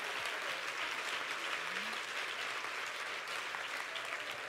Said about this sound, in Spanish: Si usted quiere, aplauda.